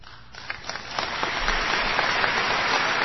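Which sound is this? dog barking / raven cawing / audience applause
audience applause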